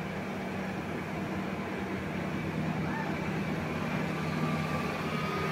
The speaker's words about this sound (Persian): الان این صدایی که میشه پاراگلایدر این موتوری هست.